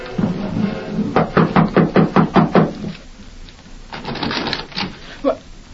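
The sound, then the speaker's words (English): A quick, evenly paced run of about eight firm, fairly loud knocks on the door of an express office in Bainesville, knocked from the porch, followed by quieter muffled shuffling. “They walked up the steps to the porch and knocked on the door.”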